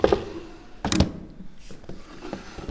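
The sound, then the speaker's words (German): In an optician's shop, wooden drawers of an old wooden drawer cabinet holding eyeglass frames are pulled out one after another, with a loud clunking thud early on followed by softer scrapes and knocks; no one speaks. “Sie zieht einige Schubladen heraus.”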